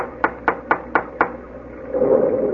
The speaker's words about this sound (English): Go ahead and knock at the door. I promise you, if a ghost answers, I won't be surprised.